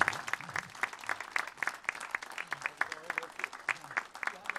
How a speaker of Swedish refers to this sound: Och så tycker jag att vi ger vår kära musiker en varm applåd för denna eftermiddag. Tack ska ni ha.